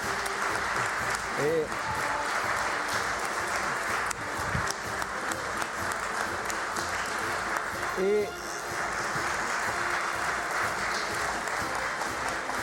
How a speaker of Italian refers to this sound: Prima di considerare chiuso il Consiglio Comunale, volevo nuovamente invitare tutti a fare un applauso a questi ragazzi straordinari.